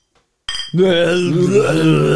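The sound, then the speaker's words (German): Two glass bottles of Flensburger Küsten-Cola knock together in a toast in a single bright clink, followed by a lingering ringing tone that holds steady for a couple of seconds. “Und jetzt, Prost, komm. Ja, Prost. Muss klirren.”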